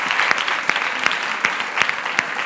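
Steady applause from a group, a dense wash of clapping with a few sharper individual claps standing out at irregular moments, fairly loud and with no voices on top.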